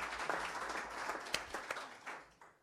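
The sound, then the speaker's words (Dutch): A room full of people at a meeting applauding warmly to wish a newly sworn-in member success, a dense patter of many hands clapping with a few sharper individual claps standing out, tapering off at the end. “Nee, want hij is al beëdigd, maar ook hem met een hartelijk applaus wensen we hem veel succes.”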